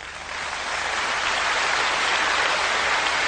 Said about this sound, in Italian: E mi sembra doveroso interrompere per un momento questo spettacolo che è fatto di festa, di gioia e di canzoni, per rivolgere l'ultimo applauso a ….